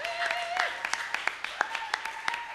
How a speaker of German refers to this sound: Lass uns den Erstgästen einen kräftigen Applaus geben. Schön, dass ihr da seid. Herzlich willkommen.